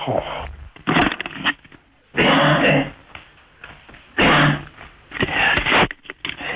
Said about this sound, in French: Bon, vous videz la gorge déjà, parce que j'ai entendu que vous avez beaucoup toussé, pour avoir une voix claire.